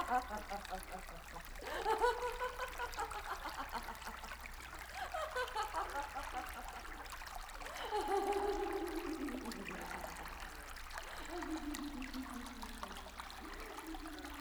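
Water trickles and gurgles steadily through a marsh, a continuous flow with bubbling swells and dribbling splashes rising and falling throughout.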